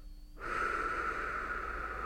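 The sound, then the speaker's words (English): A long, steady breath pushed out through the mouth in a breathing exercise, deflating the belly until all the air is out, starting after a short pause and holding an even, airy hiss until the end. “deflate all the way out.”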